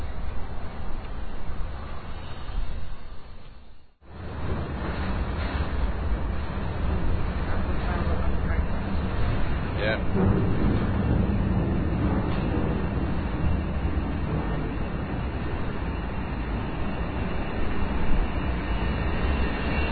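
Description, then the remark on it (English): A freight train rumbles steadily past, a loud continuous roar with heavy low-end weight that holds for the whole stretch, briefly dipping near the start before resuming. “And there's a freight train.”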